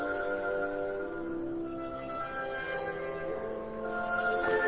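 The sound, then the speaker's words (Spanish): A lyrical oboe melody sings in the upper register over sustained low bassoon and horn chords, a steady, moderately loud orchestral passage with no voices. “La voz del oboe se destaca como timbre superior, voz aguda.”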